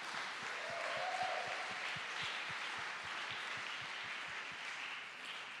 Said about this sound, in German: Ein Applaus für euch.